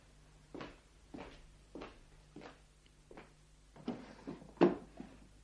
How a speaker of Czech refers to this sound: Mohu otevřít zásuvku v psacím stole? Samozřejmě.